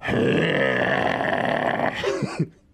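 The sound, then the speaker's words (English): A human voice imitates a cat about to hack up a hairball: a loud, raspy, throaty retching drone for about two seconds, ending in a couple of short gurgling hiccups. “Imagine the sound a cat makes moment before it decides to hawk up a hairball.”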